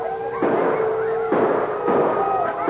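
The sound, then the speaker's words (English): Three loud gunshots crack out in fairly quick succession, each leaving a noisy burst, scattering a frenzied wolf pack surrounding a man, its wavering howls and yelps continuing underneath and between them. “When he heard the shots that scattered the frenzied wolf pack surrounding him, he could hardly believe his ears.”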